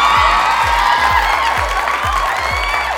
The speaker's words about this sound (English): Stop clapping, you traitors. You all like the vavoom.